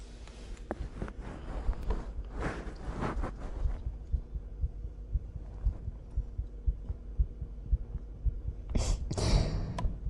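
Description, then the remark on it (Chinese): A woman's fast heartbeat, heard with the listener lying against the left side of her chest, thumps steadily with soft, muffled beats, framed by bursts of fabric rustling at the start and again near the end. No one speaks. “是不是姐姐的心跳比常人的都要快啊？”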